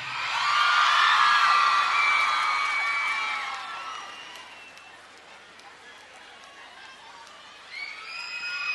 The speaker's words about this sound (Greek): Φασάρια φωνές.